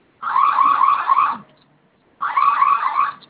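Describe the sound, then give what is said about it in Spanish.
A loud electronic security alarm siren wails in two bursts, each lasting about a second, separated by a brief pause. The tone warbles rapidly and sounds harsh, with no voices. “Se silenció la alarma, ¿verdad?”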